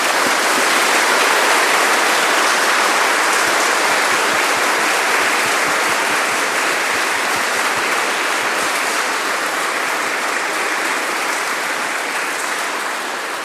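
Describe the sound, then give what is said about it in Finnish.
A crowd claps loudly and steadily for a youth camp group at a church service, a dense, ringing wash of applause that holds strong for over thirteen seconds with no voices breaking through, easing off only slightly near the end. “Nyt, rakkaat nuoret, voitte nousta seisomaan ja kääntyä ympäri ja annetaan oikein raikuvat aplodit tälle meidän ryhmälle.”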